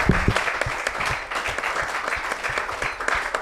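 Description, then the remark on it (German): An audience applauds steadily for a few seconds, a dense wash of many overlapping claps at an even, fairly loud level with no voices above it. “Dürft ihr jetzt klatschen.”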